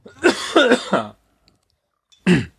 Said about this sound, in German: ich muss mal eben husten.